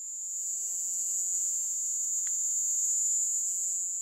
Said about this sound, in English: Two scientists who analysed that recording concluded that the species was most likely the Indies short-tailed cricket. Here's what they sound like.